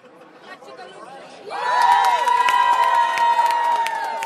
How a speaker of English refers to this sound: At the victory party in Pleasanton, at least 80 supporters packed the Alameda County Deputy Sheriff's Association headquarters, cheering as the ticker on the bottom of the big TV screen said, California District 15, Swalwell 52%, Stark 47.